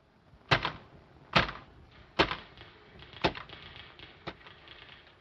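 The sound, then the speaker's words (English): Five sharp, slow clacks of typewriter keys, struck one at a time about a second apart, each with a short ringing decay over a faint hiss, as someone types to finish a review notice; no voices. “Get me a typewriter. I'm going to finish Mr. Leland's notice.”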